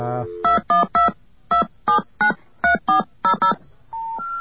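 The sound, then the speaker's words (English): A quick series of telephone keypad tones, about ten short beeps in uneven clusters, each a bright dual-pitched chirp, ending with a steadier tone, as an area code and number are dialed after a second dial tone on a COCOT payphone line. “Yeah, now dial, I believe, either an area code in the number or possibly zero area code number.”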